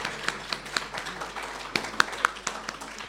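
Scattered hand claps, roughly eight or nine sharp, bright hits at an uneven pace over a low background hum, sounding like a thin, brief round of applause rather than a full crowd.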